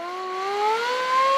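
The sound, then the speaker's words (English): The mechanical siren of a fire truck that was at the 1915 PPIE winds upward in a steady, rising wail at the Palace of Fine Arts, its strong tone and overtones climbing in pitch and growing louder over the short stretch, with no voices. “That's the siren on a fire truck that was actually at the 1915 PPIE.”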